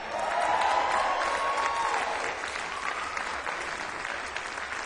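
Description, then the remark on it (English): An audience breaks into steady applause for a remark that both performers are from Bowling Green, Kentucky: a dense wash of clapping with a few cheers or whoops rising over it, holding fairly loud throughout and easing slightly toward the end. “One of the few places we would ever get applause for that statement.”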